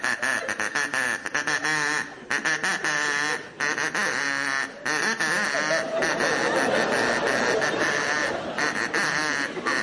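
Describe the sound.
A person imitates a duck with loud, raspy, nasal quacking, nearly nonstop for about ten seconds, broken only by a few brief breaths.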